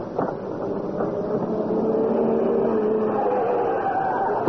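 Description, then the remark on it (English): A vehicle engine drones steadily and grows slightly louder, with a rumbling, whirring tone suggesting a car coming closer at speed. No one speaks. “What's that? It's a car. I mean, this way, but fast.”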